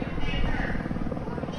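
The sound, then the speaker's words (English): A helicopter drones steadily overhead above the University of South Florida in Tampa, its low rotor thump and engine roar filling the background continuously; voices can be heard around it. “You hear the chopper in the sky, too?”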